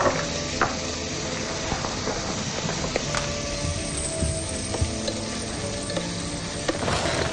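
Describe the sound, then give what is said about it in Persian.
Meat seasoned with pepper and garlic powder sizzles and fries steadily in a pan, a dense crackling hiss with occasional sharper pops and faint scraping as it is stirred. No one speaks. “کمی گوشت تفت دادیم، حدود دو لیوان آب میریزیم.”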